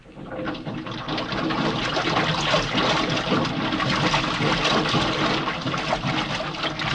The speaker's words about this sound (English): Okay, I'm gonna fill the lock.